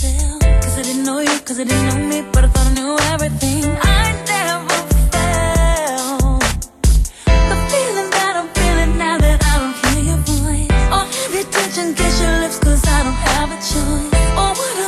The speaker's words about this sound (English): and it sounds like it was played by just this cheap little chintzy Casio keyboard. Here, listen.